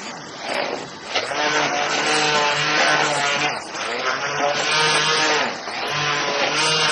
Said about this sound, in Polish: Blendujemy czekoladę w masie żelatynowej. No właśnie, i z mlekiem, tak.